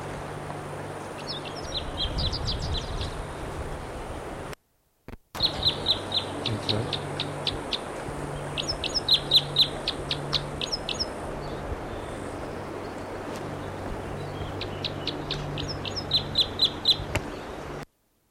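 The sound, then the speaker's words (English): A bird in the tree above a camp calls repeatedly, sending out bursts of quick, high, chattering notes in short clusters over a steady low background hum. “Bird's right in the tree above the camp. And this is it.”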